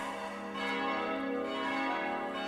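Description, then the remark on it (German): A church bell rings steadily, its overlapping metallic tones sustained and fairly loud throughout the short stretch, with no voices present. “Da ist sie, die Glocke.”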